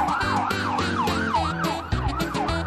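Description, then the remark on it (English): A police pursuit car siren wails in quick, rising-and-falling sweeps, loud, over the low rumble of the car's engine as it responds to a call, continuing steadily throughout with no voices. “When a call comes in, these boys in blue respond fast. Captain Andy is quick off the mark in his pursuit car.”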